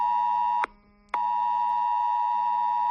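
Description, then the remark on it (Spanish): A loud, harsh electronic alarm tone from mobile phone emergency alerts in the Community of Madrid blares steadily at 2:25 on a Sunday afternoon, cut by one brief pause before resuming and continuing unbroken to the end, with no voices. “Eran las 2:25 de la tarde del domingo cuando los móviles de la Comunidad de Madrid empezaron a emitir esa alarma ante la mirada perpleja de todos, que no sabíamos muy bien qué hacer.”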